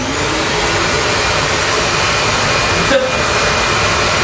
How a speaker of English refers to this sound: so that's the Craftsman 5-gallon. That's one of my favorite wet dry vacs.